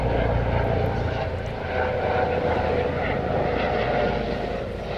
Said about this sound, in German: So, erstmal den guten Hubschrauber vorbeischrauben lassen. So, jetzt ist er weg. Orange war der Hubschrauber, ne?